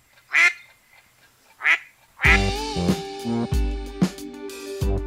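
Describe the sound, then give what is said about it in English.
A cartoonish duck quacks twice in quick succession, clear, then a loud, bright burst of comedic music kicks in with more quacks punctuating it. “known as, come on, y'all know this one, a lame duck session.”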